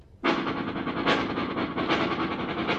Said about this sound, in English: Hey, listen. Will you hear this? Listen. A train.